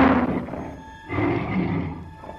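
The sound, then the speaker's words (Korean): A deep, rumbling tiger roar comes in two heavy surges, loud, with no voices present, as the tiger grabs Hannibal with its huge paw. “첫 번째 호랑이가 어마어마한 앞발로 하니발을 와락 잡아채면서 으르렁거렸어요.”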